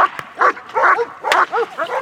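A police dog barks five times in quick succession during police dog training, loud, the barks sharp and insistent with short gaps between them and no one talking over them.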